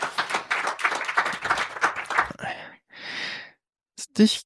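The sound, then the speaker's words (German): A short burst of audience applause as the next guest comes onto the stage, dense clapping mixed with voices, that thins into a few scattered noisy bursts and briefly falls silent. “Kleinen Applaus, der nächste Gast kommt auf die Bühne.”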